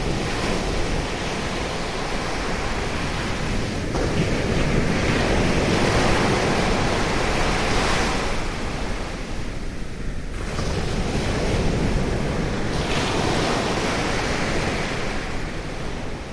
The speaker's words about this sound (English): I just want to pause to reflect on the experience of walking along a beach with the sea on both sides, which I've never done before. The sea is always only on one side. Surround sound sea. Exactly, it's the sea's in stereo.